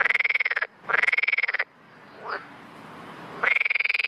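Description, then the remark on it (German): A frog croaks in three loud bursts of rapid, buzzy pulses, with a quiet pause between the second and third where a faint short chirp rises. No one speaks. “Falls der Frosch es schafft, das Insekt zu schnappen.”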